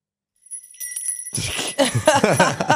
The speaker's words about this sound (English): Not you breaking the emotional moment with the bell.